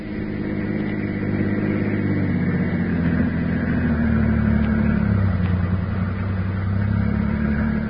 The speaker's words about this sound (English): I've got my car. We'll go for a drive.